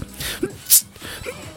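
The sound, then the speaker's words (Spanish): A person imitates a stifled, suppressed sneeze, the way some people try to minimize a sneeze: a short breathy intake followed by one brief, sharp hissing burst held back, fairly quiet. “Aunque hay gente que trata de minimizar el estornudo, como que hacen así como.”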